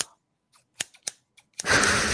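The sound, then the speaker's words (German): A few sharp snipping clicks spaced apart in near silence, followed by a sudden loud burst of rough, crackling noise that fills the end. “Ich weiß gar nicht, hast du gerade kurz mit deiner Schere den Sound abgeschnitten oder so?”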